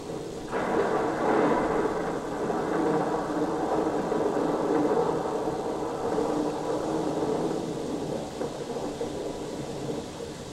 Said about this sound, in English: Close the door, George. Anne seems to be disturbed by the thunder and lightning. You're wrong, Anne. It's nature's music, so why shut it out?